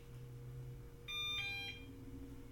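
A robot vacuum's power-on tones after its side switch is flipped on: a brief, bright electronic chime of two stepped notes lasting under a second, rising clearly above a steady low hum, with no talking.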